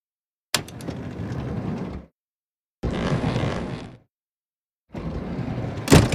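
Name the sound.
doors opening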